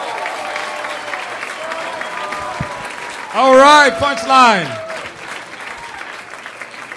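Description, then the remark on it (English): Steady applause from a sizable crowd at a comedy show, welcoming the next comedian, fills the whole stretch, a dense patter of clapping, while a man's voice briefly speaks loudly over it near the middle. “All right, a big round of applause for our next comedian,”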